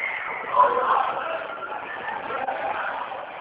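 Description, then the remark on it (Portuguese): A steady din of many children shouting and yelling over one another at a workplace, a dense, continuous clamor of high-pitched voices with no pauses and a brief louder burst near the start. “Eu tô no trabalho, eles estão gritando aqui, aí fica difícil de escutar, vocês estão indo embora.”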